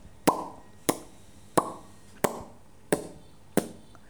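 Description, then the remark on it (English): Six evenly spaced plopping sounds, like a fish splashing at the water's surface, each a sharp pop with a brief decay, repeating steadily with no one talking. “Fish.”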